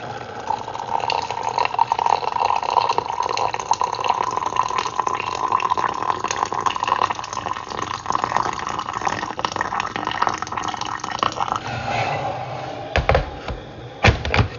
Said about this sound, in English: That was the sound of the cat drinking his water.